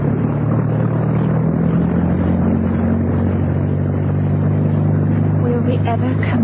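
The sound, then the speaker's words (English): The engines of a motor torpedo boat (MTB) roar as they are put to full ahead, heading out into the open sea from Yugoslavia, a loud, continuous low drone with a steady throbbing hum that holds without pause throughout. “And then suddenly, with a roar, the MTB's young commander put his engines into full ahead.”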